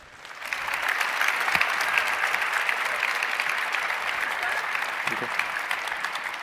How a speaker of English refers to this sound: Please give a really warm round of applause